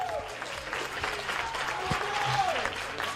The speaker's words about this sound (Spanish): Le aplaudimos.